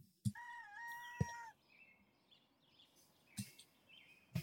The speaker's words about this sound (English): Here we go. Cock-a-doodle-doo, cock-a-doodle-doo. Starts with some bird noises.